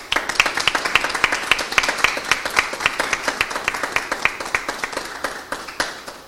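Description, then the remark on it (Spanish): Sustained applause from an audience for Pablo Torres at the opening of his new exhibition, many hands clapping in a dense, rapid patter that stays fairly steady throughout, with a few sharper claps standing out above the crowd. “Hoy también vamos a descubrir un fantástico mundo en la nueva exposición de nuestro querido Pablo Torres, para el que pido un enorme y muy cariñoso aplauso.”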